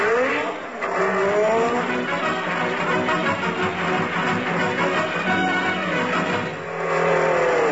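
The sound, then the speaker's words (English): A car engine roars loudly as tires squeal in long, high-pitched skids, the vehicle accelerating away with sustained revving and screeching that fades briefly before rising again. “I don't know why these drunken drivers...”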